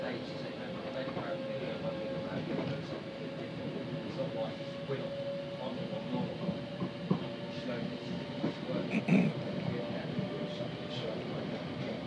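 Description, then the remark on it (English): A train rumbles steadily along the rails with a low, continuous roar, a faint sustained tone running through it and occasional clacks and knocks rising briefly above the noise. “Anyway, I'll just let you hear a little bit of the train, but I can't keep it going too long, because otherwise it won't upload.”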